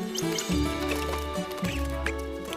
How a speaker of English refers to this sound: The tide rolls out, causing the clams to sink into the wet sand. Air bubbles pop.